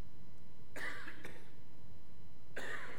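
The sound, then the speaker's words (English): A person with something in their throat gives a few harsh coughs and throat-clearing bursts, two in quick succession followed by another after a short pause, with no talking. “Sometimes I get to cough.”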